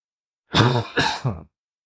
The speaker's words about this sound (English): I'm sick, so I'm probably not going to edit out these coughs, by the way. Any other time I would have, but I'm sorry.